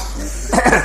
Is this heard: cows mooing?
no